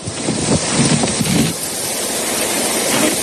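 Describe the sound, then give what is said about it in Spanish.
Heavy torrential rain pours down in the Murcia region in the afternoon, under a yellow alert for rain and storms, in a dense, steady, loud roar with a constant hiss and no voices, broken only by slight surges early on. “Esta es la lluvia que ha dejado calles como ríos, campos de cultivo totalmente inundados, destrozos en distintas vías, ramblas desbordadas y hasta una mujer desalojada en la localidad murciana de Yecla.”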